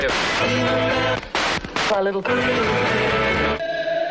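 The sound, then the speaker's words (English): Loud, garbled radio interference from a VCR fills about four seconds: a dense buzzing, warbling wash of distorted tones and voice-like fragments, broken by a couple of abrupt dropouts and sudden shifts. “We interrupt this radio for some interference from your VCR.”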